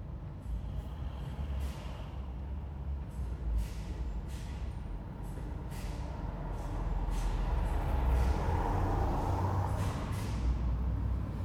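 Cars pass on a road in a steady, loud rumble that swells as a vehicle goes by near the end, with regular thumping clicks running throughout. No voices are heard.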